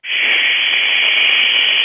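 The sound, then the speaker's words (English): A voice makes a steady, loud shushing hiss, imitating white noise, held evenly for about two seconds with no pauses or other sounds. “Okay, send love with white noise.”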